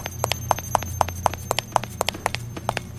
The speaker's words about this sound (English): that clunking noise is a trap, I think, which you can supposedly get the monsters to walk into them.